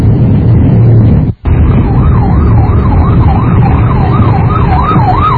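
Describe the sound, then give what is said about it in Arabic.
Steady roar of congested street traffic in a traffic jam at nine o'clock, engines rumbling continuously, with an emergency siren wailing up and down repeatedly over the din after a brief cut near the start. “في زحمة في زحمة الساعة 9 الآن هذا في زحمة.”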